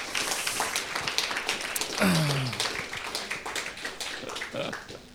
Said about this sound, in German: Können wir den vier Sterndeutern nochmal einen richtigen Applaus geben?